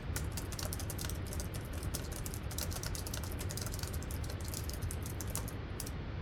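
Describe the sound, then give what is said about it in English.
Rapid, continuous typing on a computer keyboard to send a message, a dense stream of key clicks with an even, busy rhythm lasting several seconds, with no voices. “Hand me that keyboard.”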